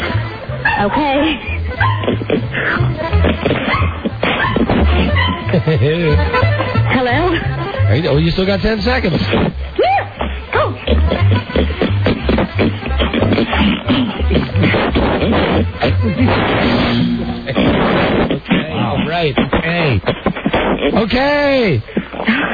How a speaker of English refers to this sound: I counted 80 snorts for Jelly Bean the pig. 80 snorts? 80 snorts.